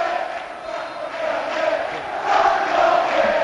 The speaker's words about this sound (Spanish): El público celebra este tercer tanto con el grito de Sandro, Sandro, quédate.